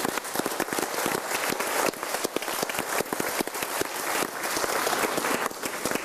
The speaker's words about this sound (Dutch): Dus mag ik allereerst een groot applaus voor de journalisten.